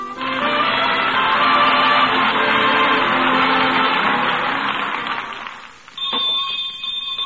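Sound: school bell ringing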